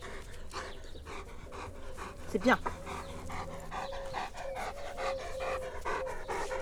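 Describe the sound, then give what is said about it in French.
A Bouvier des Flandres dog pants rapidly and steadily up close, with a short high whine midway, while a person speaks a few words over it. “Par contre, ce Bouvier des Flandres a quand même un sacré caractère de chien.”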